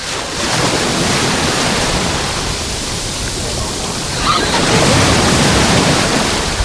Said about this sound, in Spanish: Ya se oye de fondo los gritos de los niños. Alegría, ¿por qué? Porque se están revolcando en las olas que vamos ahora a escuchar en primer plano. Así suena la playa de Salobreña, la playa de La Guardia.